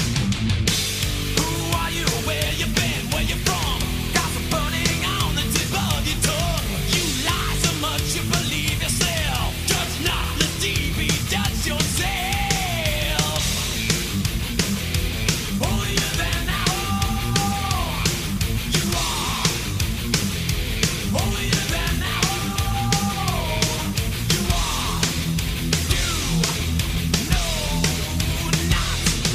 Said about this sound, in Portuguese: Tipo, com o vocal lá no alto, né, grito coletivo no refrão e tudo. Ou seja, ….